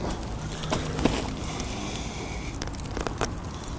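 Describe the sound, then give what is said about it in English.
A steady roar of burning, with irregular sharp pops and snaps breaking through, as a giant bonfire crackles with sawed, hammer-smashed computer pieces dropped into it. No voices. “And dropped the crushed pieces into a giant bonfire.”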